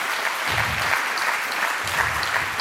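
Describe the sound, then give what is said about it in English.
An audience applauds steadily after a talk and question session, many hands clapping in a dense, sustained patter that stays loud and even from start to finish, with no voices standing out. “A big applause”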